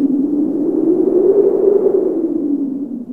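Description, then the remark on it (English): A voice imitates the wind with a steady, drawn-out low 'whooo' howl that swells slightly in the middle and lasts about three seconds, fairly loud. “This is how the wind blows.”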